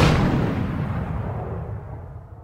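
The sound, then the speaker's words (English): A loud cannon blast goes off, a deep booming report followed by a long rumbling decay that rolls away over a couple of seconds, with no voices. “I put in these cannon sounds because this is a big moment for everyone learning my opinion on Benjamin Franklin.”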